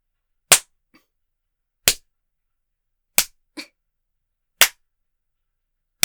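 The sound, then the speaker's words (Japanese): Sharp, loud slaps on the skin of the buttocks during a spanking land about five times at a slow, steady pace roughly a second and a half apart, with a couple of fainter smacks between them and no voices. “いい子になるまでペンペンだからね。”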